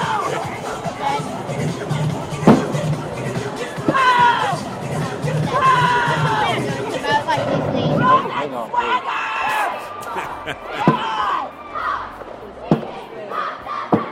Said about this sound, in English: They sound like they're young cheerleaders, you know what I mean? Like, they're like 12 or 13 or something.